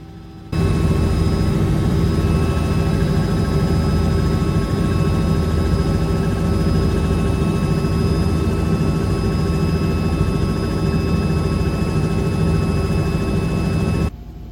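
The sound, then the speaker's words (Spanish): Steady, loud engine roar of a helicopter in flight to a winery's bottling plant in Chimbarongo, an 18-minute trip, a dense rumbling drone with a constant whine, heard from inside the cabin, with no talking. “Por un tema de tiempo, nos fuimos en el helicóptero”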